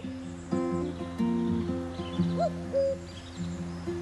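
A common cuckoo calls several times, its soft, hollow two-note hoots repeating steadily at moderate distance, with no voices present.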